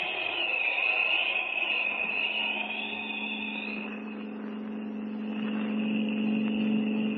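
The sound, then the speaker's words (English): A car engine drones steadily as the vehicle drives along, a continuous low hum with a whining tone on top, loud for the whole stretch, no voices. “Pull up at that gas station and fill the tank.”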